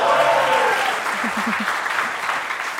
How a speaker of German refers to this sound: Wer ist für Hektarinchen? Darf ich mal um Applaus bitten?